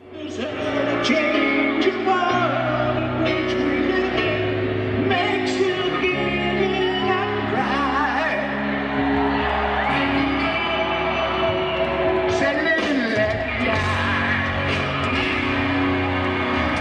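A loud live rock performance with singing over a full band and a crowd whooping and cheering throughout, the sound dense, steady and somewhat muddy for about seventeen seconds.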